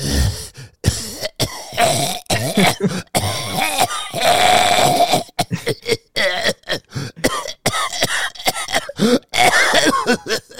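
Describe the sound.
A voice imitates the wet, phlegmy cough deep in the throat of a masked man on a metro train: a run of rough, gurgling hacks and throat-clearing bursts, fairly loud, with no speech.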